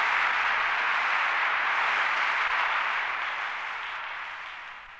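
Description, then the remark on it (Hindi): Steady, dense applause from an audience, a continuous wash of many hands clapping that holds strong and then gradually tapers off toward the end; no voices. “धन्यवाद, शुक्रिया आपकी इस हौसला अफजाई का, आपकी इन तालियों का।”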